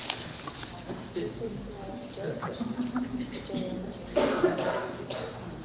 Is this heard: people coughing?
yes